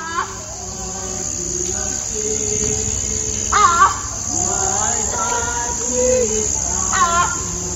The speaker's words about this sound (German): Zum einen natürlich dieses typische tropische Grillengetöse, was man da drauf hört. Aber ich höre im Hintergrund da auch irgendwie, dass Menschen singen. Ist das tatsächlich so gewesen oder lief dann Radio? Nein, das ist tatsächlich so gewesen.